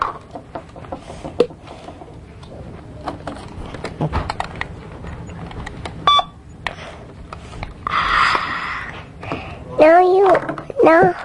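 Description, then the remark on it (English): A few short electronic beeps ring out amid scattered clicks and clatter, with a burst of noisier tones and a child's high, warbling voice near the end. “Beep. What's that?”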